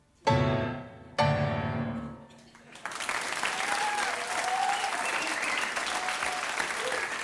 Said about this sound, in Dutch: Een zeer terecht applaus